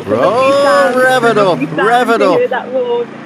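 A voice imitates the engine of a diesel Mercedes SLK car revving, a loud buzzing drone that rises and falls in pitch in two main surges over about three seconds, with no other sound alongside it.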